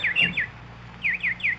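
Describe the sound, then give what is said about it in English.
A nightingale chirps in two quick bursts of three bright, descending tweets each, separated by a short pause, clear with no voices. “Go feed your birds.”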